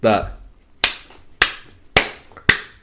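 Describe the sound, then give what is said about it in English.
A short vocal sound gives way to four sharp, loud handclaps in a steady, even rhythm, each ringing off briefly before the next: the clap track in the Pokemon Elite Four theme music. “It's because of the clapping.”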